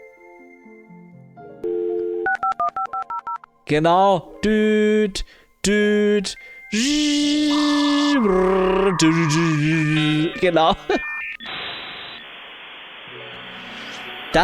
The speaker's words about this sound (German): Und 56K-Modem-Sound. Beste. Jawoll.